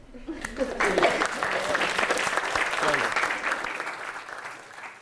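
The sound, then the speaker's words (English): A round of audience applause at the end of a lecture in Southampton: dense, crackling clapping that swells fast and holds steady for several seconds, with faint voices mixed in beneath the clapping. “How do we finish lectures? Round of applause.”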